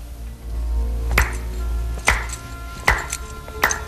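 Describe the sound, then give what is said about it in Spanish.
Four slow, deliberate, sardonic hand claps by Edward Norton's disturbed character in a film, evenly spaced about a second apart, each a sharp bright crack ringing out over a low steady hum, with no talking. “Y ahí Edward Norton, el personaje, perturbado, aplaude de forma así sardónica,”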